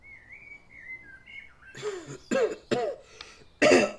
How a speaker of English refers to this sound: You're beginning to sound like your grandfather with all that coughing, Gemellus. Drink up. Wine will do you some good.